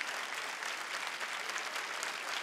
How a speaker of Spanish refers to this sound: Por cierto, a Mario Kreuzberger, que está pasando la posta y que no me cabe ninguna duda de que ha sido, o sea, todos lo sabemos, todos chilos, ha sido un aporte fundamental en esta tarea. Un aplauso para él también, por favor. Que lo sienta.